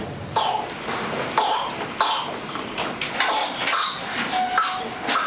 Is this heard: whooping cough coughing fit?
yes